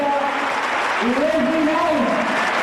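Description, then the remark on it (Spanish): A basketball crowd gives a sustained ovation to Movistar Estudiantes player Leslie as she leaves, the game paused for it, dense clapping and cheering holding at a steady, loud level throughout, with a voice rising and falling over the applause. “Ahí está con todo el equipo, con Alberto Ortego, el entrenador, la ovación del público, con todas sus compañeras.”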